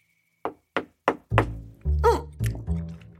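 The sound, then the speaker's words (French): Three quick, sharp knocks on a door in a steady rhythm, clear, followed by a heavier thump and a low, rumbling creak that continues to the end. “Il était en train de se goinfrer de fruits quand quelqu'un toqua à nouveau.”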